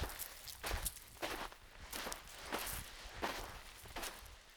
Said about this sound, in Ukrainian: Човгання ніг по піску.